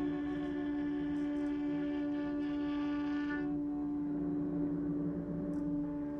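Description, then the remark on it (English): A CNC machine at a workplace hums steadily with a loud, low drone and layered tonal overtones. Its higher whine drops away partway through while the deep hum continues unchanged. “Humming along to the CNC's voice, to feel that you together are moving right. CNC machine that I recorded at my work.”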